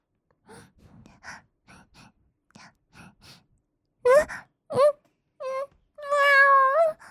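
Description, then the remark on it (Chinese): A voice imitates a cat, as a cat-demon character losing control of her body after smelling catnip, with soft breathy sniffs and gasps first, then several short, loud meows ending in one long, drawn-out, wavering meow. “身体已经不受控制了。喵！”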